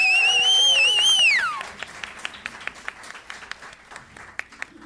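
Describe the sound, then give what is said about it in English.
A shrill, wavering whistle slides downward over a burst of audience applause for the bar staff at the Slipper Room, which then thins into scattered, uneven claps that keep popping for several seconds. “So let's hear it for them, folks.”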